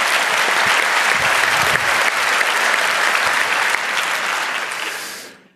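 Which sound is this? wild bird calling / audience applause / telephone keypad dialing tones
audience applause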